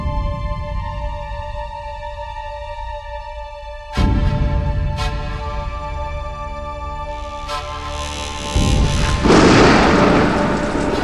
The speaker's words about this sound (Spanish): En tiempo de antes no teníamos fuego y pasábamos buscando en los truenos y los rayos que caían.